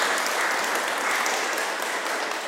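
A steady round of applause from a group, many hands clapping in a dense, even wash of sound that holds at a constant loudness throughout, with no talking.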